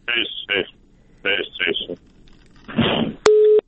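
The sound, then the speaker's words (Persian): Garbled, breaking-up phone speech and a crackly burst give way to a short, steady electronic busy tone on a telephone line as the call drops, loud and clear right at the end. “آن قطع شد.”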